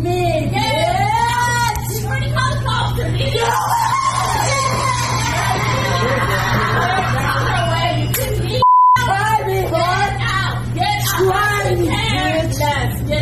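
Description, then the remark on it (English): A single short electronic drive-thru intercom beep sounds midway, briefly cutting through a busy stretch of overlapping voices and a steady low hum. “I heard that beep, that oh so familiar beep.”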